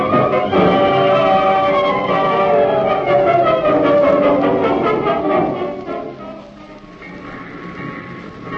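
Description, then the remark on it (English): A train rumbles loudly along the rails with a steady clickety-clack rhythm and high squealing tones that slide downward as it slows, the noise easing off near the end. “Hey, what are we stopping for? Couldn't you get us tickets on a good train?”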